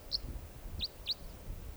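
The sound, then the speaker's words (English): A male bird gives a type 4 call: three short, high, chirpy notes, one alone and then a quick pair, faint over a low background rumble. “Type 4 there.”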